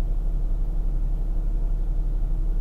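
A steady, low rumble fills the inside of a car, a muffled hum, constant and even throughout with no voices or distinct events.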